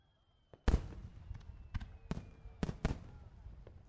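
Fireworks at a fireworks festival burst in a series of sharp, loud booms at irregular intervals, each crack followed by a crackling rumble, with faint whistling streaks rising between the explosions.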